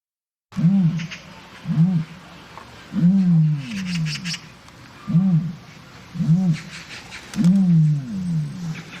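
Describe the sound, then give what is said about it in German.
An ostrich calls with a series of deep, booming grunts, about six repeated pulses at a steady rhythm, loud, with faint background hiss and no talking. “Die erste ist ein Vogelstrauß, die zweite ein Kasuar.”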